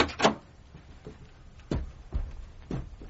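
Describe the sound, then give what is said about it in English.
A brief rustle and click as someone gets out of bed and switches on the light, then a few slow, heavy footsteps thud across the room to the door, evenly spaced, with no one speaking. “I'm waking up and switching on the light, looking at the clock, getting out of bed and crossing the room to the door.”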